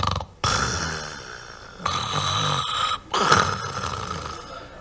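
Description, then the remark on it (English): Loud, raspy snoring from a man, in three long rattling breaths separated by brief pauses, with no talking. “코를 고아도 음악적이진 않아요. No, it's not musical. His snoring, right?”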